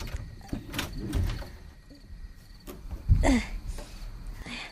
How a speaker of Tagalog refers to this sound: Sisimulan ko ng magsara ng mga bintana.